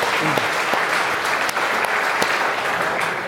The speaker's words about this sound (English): Who came in the XJS, by the way? Yes. I salute you, sir. Look at that, a round of applause.